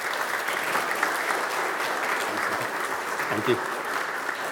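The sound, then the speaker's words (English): A steady round of applause from a crowd, dense and continuous clapping at an even loudness throughout, with a brief spoken thanks heard over it. “Give them a round of applause there.”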